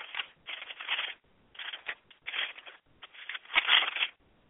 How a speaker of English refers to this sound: I want to read something still. And I'm turning pages to get to it.